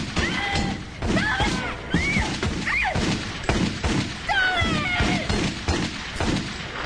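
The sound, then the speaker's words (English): A heavy kick thuds against an unmoving door, followed by a rapid string of loud, sharp gunshots fired through the wallboards, cracking out in bursts across several seconds, with swooping tonal sounds running underneath. “Jesse kicks the unmoving door, then fires her gun through the wallboards.”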